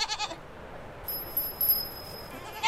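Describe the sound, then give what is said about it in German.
The goats Mokka and Melange bleating outdoors on a mountain pasture (Alm) in the Falsertal, Tyrol: a short wavering bleat at the start, a quiet stretch of breezy background, then the start of another bleat right at the end, no voices. “Ja, das sind die Ziegen Mokka und Melange.”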